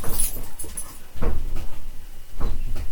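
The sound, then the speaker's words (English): A female dog whimpers and gives short yips, three brief bursts spaced about a second apart with quieter rustling in between and no one talking. “Good pup.”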